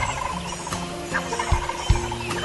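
A wild turkey tom gobbles outdoors in answer to a hoot owl's call, a rapid rattling call rising over a steady hiss of woodland ambience, with a couple of soft thumps near the end and no talking.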